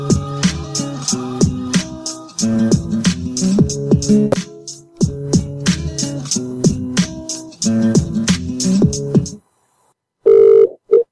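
A phone rings as a prank call is placed, with a repeated electronic ringtone pattern, loud and steady for several cycles, then goes silent before a short single tone sounds. No one speaks.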